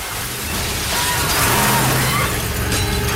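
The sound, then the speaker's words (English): A heavy armored truck mounts the sidewalk and smashes through a large plate glass window of a bank, with a sustained loud crunch and scattering debris over a low rumbling engine, lasting a few seconds without a clean break. “Approaching the World Bank, the trucks mount the sidewalk and crash straight through the plate glass window.”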